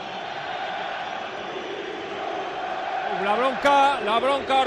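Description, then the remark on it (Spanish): A stadium crowd at the Sánchez Pizjuán roars with a steady, dense wash of jeering in the 93rd minute of a 0-4 loss to City, then loud protest chants of "Pepe Castro dimisión" and whistles rise over it in the final seconds, swelling in volume. “La bronca ahora sí monumental después del ridículo espantoso de este arranque de temporada, el grito en el campo de Pepe Castro, dimisión.”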